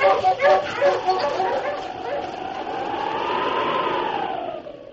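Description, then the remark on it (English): Sled huskies, with the lead dog King, let out a burst of sharp, overlapping barks and yips as they are urged on, then one dog draws out a long, wavering howl that rises and falls before fading. “On, you huskies.”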